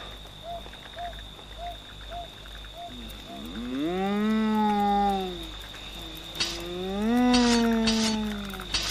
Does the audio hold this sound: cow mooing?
yes